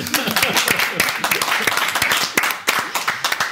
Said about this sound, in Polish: No, wielkie brawa!